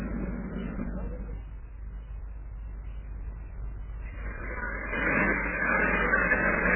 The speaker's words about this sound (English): I thought that was the machine gun revving up again, but it was really an armored car revving up its engine, and apart from the thunder of the engine of the tank right beside me, everything is again all quiet.